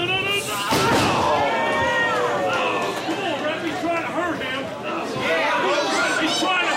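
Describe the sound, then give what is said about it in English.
On a Saturday night at an athletic club, a tall, middle-aged black wrestler in a leather trench coat slams an opponent he lifted overhead onto the ring mat, one booming thud early on cutting through a noisy, chattering crowd whose overlapping voices continue steadily afterward. “It's Saturday night, and the first thing you see when you walk through the door is a tall middle-aged black wrestler in a leather trench coat lifting some poor guy over his head just before the inevitable.”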